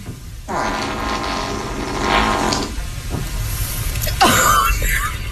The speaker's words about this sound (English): So keep in mind, she's just staring at the camera, lets out the fart, and then you hear her break down to laughter when she realizes